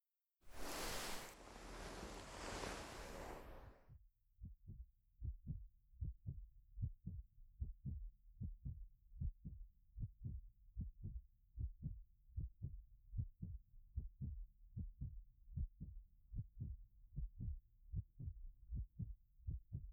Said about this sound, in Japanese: そういえば人間の心臓の音のリズムを聞いているとよく眠れるんだそうですよ。兄さんも私の胸に耳を当てて心臓の音を聞いてみてください。